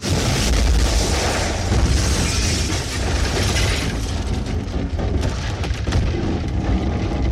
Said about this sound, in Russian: А когда объект, промелькнувший над Кандлтоном, исчез, словно никогда и не появлялся, и город вернулся к тому состоянию, что последние 2,5 столетия заменяло прежнюю жизнь, его настигла ударная волна, громыхнула над городом впервые за 7 последних лет.